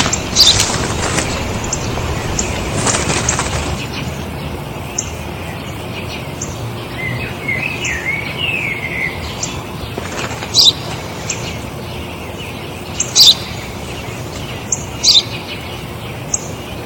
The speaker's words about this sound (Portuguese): O que é aquilo? É um pardal. O que é aquilo? Eu já disse, pai. É um pardal.